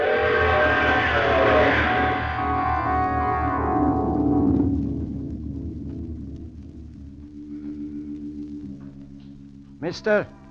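A train roars through with a blaring horn and a loud, dense crashing din as it smashes into a car stuck on the track, fading after a few seconds into a lower steady rumble, ending with a brief high burst.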